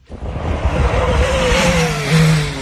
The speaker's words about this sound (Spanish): Sonido del Toyota, del coche de Fernando Alonso en el campeonato de resistencia.